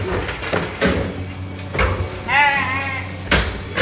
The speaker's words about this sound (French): Un lot de brebis qui arrive derrière d'une petite remorque. Ils sont mises dans un enclos.